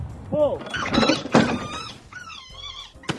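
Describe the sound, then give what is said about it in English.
In a political ad about small business under the current tax code, a bunny is launched from a catapult: a launching thunk followed by its shrill, wavering screeches, rising and falling in pitch across several short bursts, with a clattery rattle underneath. “So the bunny was launched, and you hear it small screaming under the when it's shot out of the catapult.”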